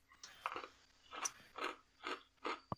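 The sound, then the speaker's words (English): Crisp crunching as someone chews popcorn, about five or six distinct crunchy bites in a steady rhythm with no talking. “I'm chewing on something I picked up. One of the things wasn't an illusion. It was some popcorn.”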